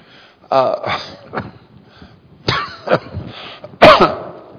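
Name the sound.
coughing and throat clearing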